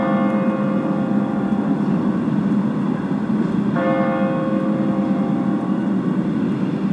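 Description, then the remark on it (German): The large bell of the Michel church strikes two o'clock, counting the hours at the close of a motorcycle church service; its deep, resonant tone rings out and lingers, with a fresh heavy stroke midway through over a low outdoor rumble. “Und nun die große Glocke, die die Anzahl der Stunden verkündet.”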